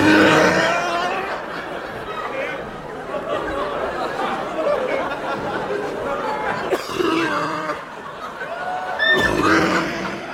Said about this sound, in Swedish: Det här du hörde nu, det är Robert Gustafssons trademark-hosta i Killinggänget. Har han en hosta?